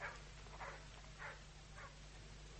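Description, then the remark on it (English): A dog barks four times at a steady pace, the barks faint over a low background hum, with no one speaking, as a boy runs to unleash the dog. “The boy ran to unleash the dog, and the maid hurried towards the house.”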